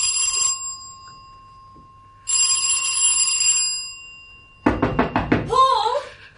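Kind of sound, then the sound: household object, doorbell ringing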